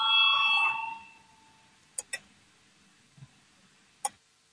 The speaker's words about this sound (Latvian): Lūdzu zvanu, balsosim par 122. Atbildīgās komisijas priekšlikumu.